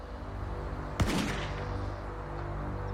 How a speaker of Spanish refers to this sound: Entonces, temprano el 20 de mayo de 1988, un disparo rompió el silencio de la mañana.